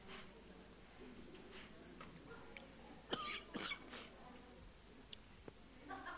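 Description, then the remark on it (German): A few harsh coughs from a speaker giving a Bible teaching burst out around the middle, followed by lighter throat-clearing sounds, with soft murmuring voice and quiet background noise before and after. “Mein Husten war schon mal aromatischer, ne? Irgendwie melodischer so.”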